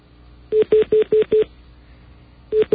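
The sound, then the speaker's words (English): A glitchy phone line, line 10 of a malfunctioning phone system, repeats a steady mid-pitched tone in quick identical beeps, five evenly spaced pulses, then a pause before the pattern starts again. No one speaks. “Some bizarre malfunction with our phone system.”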